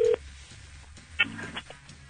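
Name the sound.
telephone dialing tones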